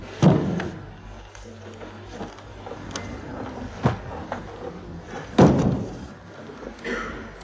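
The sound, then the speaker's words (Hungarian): A door thuds heavily near the start as someone enters through the opposite door, followed by quieter knocks and shuffling, then a second loud bang of the door about five seconds later. “Vele szemben a másik ajtón Bulicsov lép be.”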